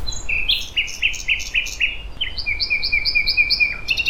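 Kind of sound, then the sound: bird, nightingale singing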